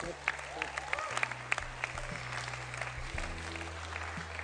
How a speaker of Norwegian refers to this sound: Du kan klappe for det.